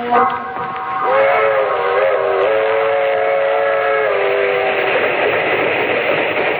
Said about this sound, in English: That train is the Southeast Limited. See it? Long and sleek and powerful, flicking off the miles on the humming rails. A masterpiece of 20th century mechanical perfection.